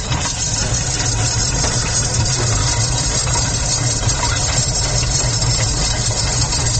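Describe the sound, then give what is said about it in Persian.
A corn-roasting machine used by a corn seller in Kabul runs steadily and loudly, its engine hum and rattling vibration continuous throughout with no pauses, and no one speaking. “خودش ماشین است، یعنی خودش توک داده تا فیره پخته میکنم.”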